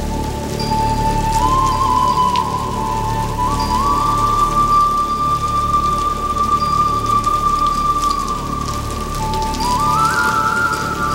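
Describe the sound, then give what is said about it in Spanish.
Heavy, torrential rain pours steadily onto a historic building, a loud, dense, unbroken hiss of drops throughout, with a faint sustained whistling tone drifting above it. No one speaks. “Llueve torrencialmente sobre el edificio histórico en el que Sita espera a Rada.”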